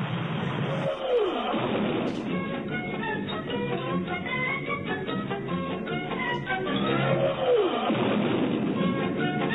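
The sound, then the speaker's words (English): Energetic cartoon theme music plays loud and busy throughout, a dense rhythmic clatter of instruments with two swooping sound effects sliding down, one early and one near the end. “That's some energetic cartoon music.”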